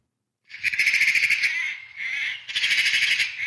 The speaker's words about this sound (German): frühlingshaften Gefühlen, mit schönem Vogelgezwitscher von mir persönlich aufgenommen.